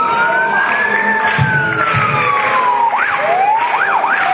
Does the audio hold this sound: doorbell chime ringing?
no